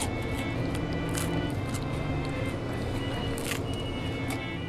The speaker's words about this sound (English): I'm hoping you can hear that crunch, because the undercarriage on this is so light. Golden brown, 3 or 4 shades of brown.